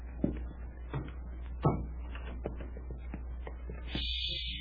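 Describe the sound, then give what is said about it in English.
A door being eased shut, with a couple of soft, muffled thumps and faint rattling over a steady low hum; quiet, no voices. “Hey, you close the door behind us”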